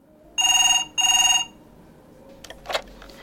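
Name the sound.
telephone ringing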